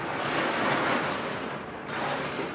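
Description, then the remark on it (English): Scrap metal, remelt including piano plates that failed inspection, is released by a pushed button from a large overhead electromagnet into a factory furnace hopper: a loud, continuous rushing roar lasting a few seconds, with a brief dip partway through before the din swells again; no voices. “Down below, a button is pushed to release the scrap metal.”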